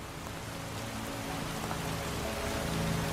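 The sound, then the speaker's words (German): Steady rain patters evenly and continuously in a forest, a dense wash of drops on a surface with a faint low rumble beneath, holding at an even moderate level without any voices. “Nun wird der Regen etwas kräftiger, nicht stürmisch jedoch. Es ist ein gleichmäßiges Prasseln.”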